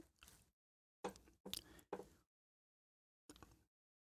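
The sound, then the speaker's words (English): A noisy chair back creaks and groans in several short, scratchy bursts, three close together and one more after a pause, fairly loud with silence between. “I gotta fix this chair. It's making a lot of noise back there.”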